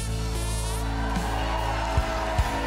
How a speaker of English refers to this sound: Another Manualist. And this is a guy from Finland, and he does a Christmas song.